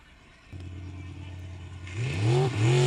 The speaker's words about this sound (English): Let's see you guys check out some boat racing.